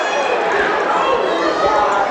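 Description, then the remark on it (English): A large crowd boos loudly and steadily at a referee's late foul call for a reach during a basketball game involving the Lady Spartans and Moberly, a dense wash of many voices that holds for the whole couple of seconds without letting up. “Crowd did not like the call.”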